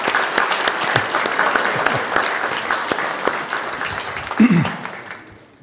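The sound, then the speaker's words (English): An audience in a church claps steadily for several seconds for visiting children, a dense patter of hand claps with a brief voice rising near the end before the applause fades out. “I think we give a round of applause.”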